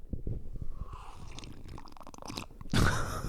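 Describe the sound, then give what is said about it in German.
Wet mouth and swallowing noises from someone drinking tea, ending in a louder, breathy slurp near the end. No one speaks. “Ja, ich muss mal kurz einen Schluck trinken. Trink mal noch einen Schluck von deinem geilen Tee.”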